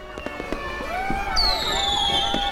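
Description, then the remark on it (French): Fireworks and cannon fire in Charlestown, where the town is celebrating the repeal of the Stamp Act: sharp scattered pops and crackles mixed with high whistling tones that rise and hold, with a steady dense background of celebration noise. “Tout était illuminé. On tirait le canon et des feux aussi.”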